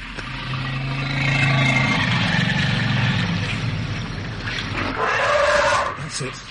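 An African elephant trumpets: a low, growling rumble builds over noisy outdoor background, then a loud, brassy blast rings out near the end before cutting off abruptly.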